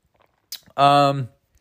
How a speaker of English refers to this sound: Water sip.